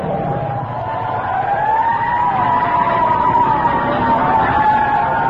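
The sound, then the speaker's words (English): A fire truck siren wails loudly and continuously, its pitch slowly rising and falling, over a low rumble of traffic and engine noise, growing slightly stronger as the truck comes up behind a car on the road. “There comes a fire truck behind us.”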